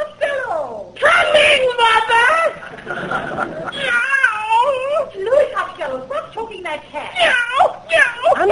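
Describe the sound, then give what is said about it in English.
A cat yowls and wails insistently as it is being squeezed and choked, its strained, wavering cries rising and falling in long bursts, nearly continuous with only brief breaks. “Choking it, Ma. I'm trying to get the money out. Well, there's no money in that cat.”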